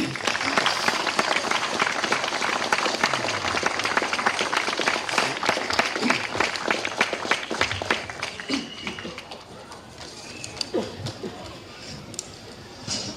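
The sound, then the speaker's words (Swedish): Steady, dense applause from a sizable audience at a sports club award ceremony, honouring a riding club member, loud for most of the stretch, then thinning out toward the end with some scattered claps and faint voices underneath. “Så en applåd.”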